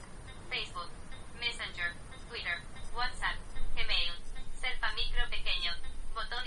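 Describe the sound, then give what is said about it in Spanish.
A rapid synthetic screen-reader voice on a phone reads out all the icons on the screen, starting from the top, in quick bursts. Its thin, phone-like sound is steady, with no other talking. “Como estaba al principio de la pantalla, me empezó a leer todos los iconos.”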